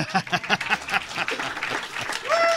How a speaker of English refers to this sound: Applause is appropriate here.